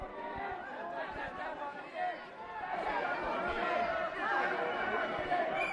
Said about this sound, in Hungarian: Itt vagyok a Szerb utca és a Váci utca sarkán. A tömeg itt most megállt. A tömeg megindult, és a rendőrség sorfala szétnyílt.